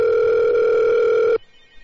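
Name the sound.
telephone ringing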